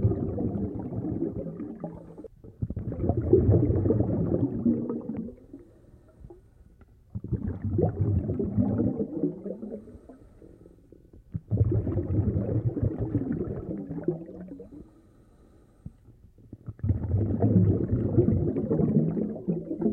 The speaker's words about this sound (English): In the following sound file, the composer uses low pitches of harmonium, played with the bass foot pedal keys of the instrument, then pitch shifted, to create the underwater atmosphere.